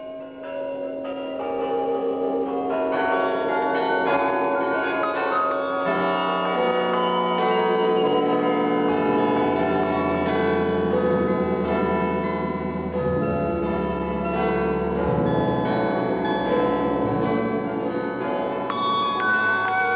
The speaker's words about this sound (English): Remember, we want to know the countries from where the bells toll. Just to make it a little bit more difficult, we've mixed the bells together, so you'll have to dig them out. There are five in total, and here they come.